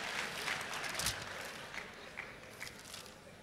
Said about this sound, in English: Clap for me.